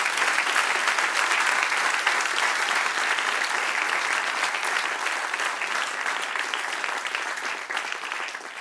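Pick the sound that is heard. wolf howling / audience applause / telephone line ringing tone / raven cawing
audience applause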